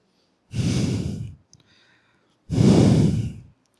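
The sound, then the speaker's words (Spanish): A voice imitates a bull's heavy snorting breath: two loud, forceful exhales about two seconds apart, each a rough, noisy whoosh lasting around a second, with near-silence between. “Un aliento así parecido, ¿verdad? Como el de un toro.”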